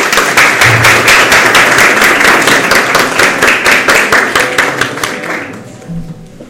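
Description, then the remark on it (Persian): An audience at a poetry recitation gathering claps together in a loud, dense burst of rapid hand claps that keeps a steady rhythm, then thins out and fades over the last second. “دو تا تمرین تشویق کنیم.”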